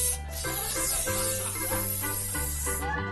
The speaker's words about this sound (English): Here's a can just for you. Thanks. So I spray my underarms and use the same spray for my breath?